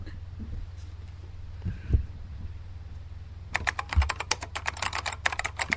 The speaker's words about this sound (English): The typing makes sound so much more bizarre.